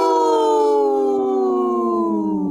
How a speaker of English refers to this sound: My wolf sounded hurt. Oh. Hopefully not.